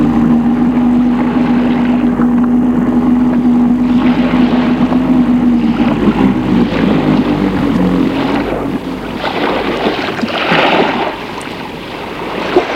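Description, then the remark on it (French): A steady, droning boat engine hum runs loud with a strong low tone at sea, joined by rushing water and wind noise that swells toward the end; no one speaks. “La journée a passé vite entre le voyage et le bateau.”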